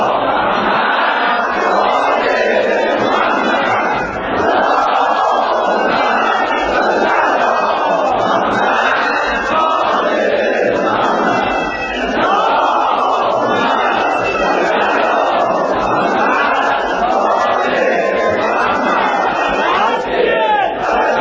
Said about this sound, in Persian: به نام نامی از زهرا اول سه تا صلوات محکم و مشتی و قشنگ بفرسته، بفرست که معلوم خسته نشد.